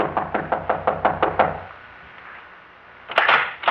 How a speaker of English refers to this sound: Answer, Chief. Try knocking.